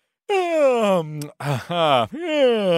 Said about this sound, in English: Oh, man, stop yawning. You're going to make us yawn.